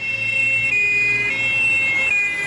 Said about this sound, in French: Des sirènes de police, beaucoup de sirènes de police.